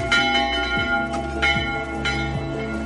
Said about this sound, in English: The church leaders, Father Martin and Father Tharbet, head straight to the church. There's a lot of damage, but they are so happy that they ring out the church bells.